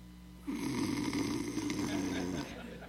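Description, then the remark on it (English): A man gives one long, rasping snore lasting about two seconds, fairly loud, during a quiet, reverent time of prayer, then it cuts off into silence. “Deep time of prayer, and this one fellow's snoring.”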